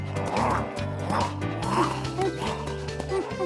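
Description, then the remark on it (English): A huge dog lets out a quick run of high, excited yips and short barks like a playful puppy, repeating every half second or so over steady background music. “He's acting like a puppy again.”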